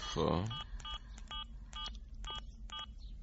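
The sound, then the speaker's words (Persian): A quick series of short electronic keypad tones, about eight beeps in an irregular rhythm as a doctor's phone number is punched into a mobile phone, clear after a brief burst of sound at the start. “آره آره، بگو من میذارم توی گوشی.”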